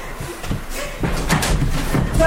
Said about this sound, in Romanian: Am auzit o ușă trântită. Ușa camerei mele. Asta e ușa dumitale? Da, e a mea.